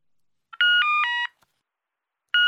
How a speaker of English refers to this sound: What's that? Is it your mobile phone? Oh, yes, it is. Is it Ben? No, it's my friend Anna. It's a message about our English homework.